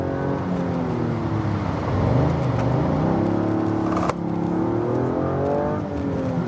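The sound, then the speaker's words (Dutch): A Toyota GR Yaris sports car engine revs loudly, its pitch climbing and falling in smooth sweeps, with a brief sharp break partway through before the engine picks up again. “Ja, de GR Yaris is dan ook wel echt een auto waarin je lekker aan de bak kunt.”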